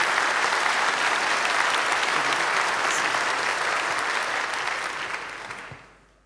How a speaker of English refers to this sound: Guys, give them the huge round of applause.